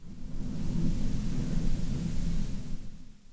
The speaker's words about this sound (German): Ich habe es mal eben kurz sensibler eingestellt. Vielleicht habt ihr es eben mitbekommen. Jetzt donnert es und blitzt es hier und gewittert.